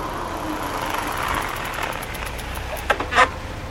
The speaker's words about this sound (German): Zurzeit herrschte reger Betrieb bei Bocks Wurstwaren. Viele Lastwagen standen auf dem Hof oder rangierten gerade an die Laderampen.